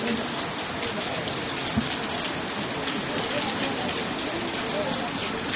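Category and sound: nature, rain falling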